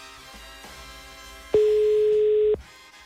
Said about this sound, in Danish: Så nu ringer den. Hun snorksover, den er jo på stedet på lydløs, så nu ligger den bare og siger. Zzz, zzz, zzz.